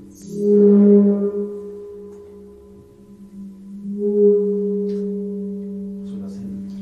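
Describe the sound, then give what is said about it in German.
A rubbed singing bowl rings with a steady low hum and a clear higher overtone, swelling loud at first, fading briefly, then building again into a sustained, wavering drone. “Ein geliebter Gong, wenn man reibt.”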